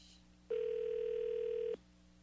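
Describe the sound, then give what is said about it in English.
A single steady ringback tone sounds on an old phone system during an outgoing call, holding for just over a second before cutting off, clear and fairly loud over a faint background hum, with no one talking. “Our phone system is so antiquated. that you can't make a phone call if there's one sound heard.”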